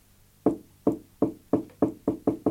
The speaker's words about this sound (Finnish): Heti vasemmalla oli toinen ovi ja sille Möttönen koputti.